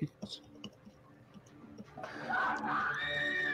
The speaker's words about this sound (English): Yeah, more screaming.